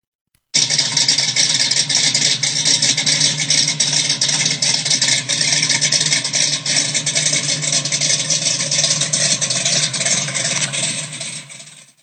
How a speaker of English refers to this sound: You can hear this Hemi rumble. So here we go. Enjoy the easy listening sounds of a 426 Hemi.